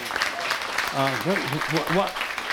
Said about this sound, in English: Don't take this wrong, but why are you clapping? No, seriously, why are you clapping? That's the Holy Spirit speaking to somebody. It's not God doing tricks. Please, let's have reverence for the things of God. You don't clap on those kind of things.